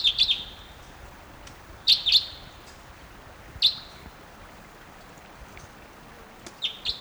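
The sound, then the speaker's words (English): Type 2 red crossbill flight calls from a flyover at 9:08 a.m.: sharp, high 'kip' notes in quick pairs and triplets, repeated in four short bursts over a soft steady hiss, with no talking. “there's still at least two or three crossbills in the trees up above the stream. Stop. 9:08 a.m. Here comes the type 2.”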